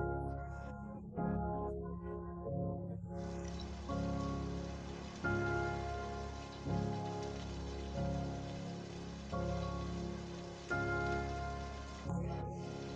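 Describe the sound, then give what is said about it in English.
Steady rain patters and hisses throughout, mixed with soft, sustained musical chords that shift every second or so; no voices. “When you stop for a few minutes watching the rain, you realize that your body feels heavier than usual.”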